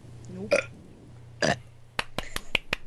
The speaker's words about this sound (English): See, I've been the one muting my microphone so you didn't hear me belch, but I guess all bets are off now. Mm-hmm. Hey, it was just good timing. Somebody else did it, and I felt one come in. I was like, the fuck, let's just go for it.